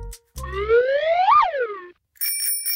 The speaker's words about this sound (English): Oh, it's a bicycle bell. Why is that in the backpack?